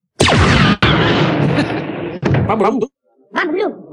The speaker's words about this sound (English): Yeah, it's like a mannequin with an explosion that goes off in front of him. Yeah. And then someone kicks it over from behind.